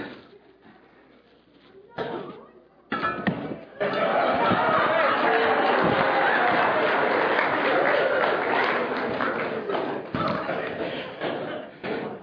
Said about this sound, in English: For those of you who may be here for the first time, those who are watching for the first time, you heard a few claps when they realized that I have a balloon here.